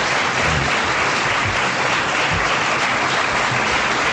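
An audience claps steadily, a dense, even wash of many hands that holds at a constant loudness for about four seconds, with no voices standing out.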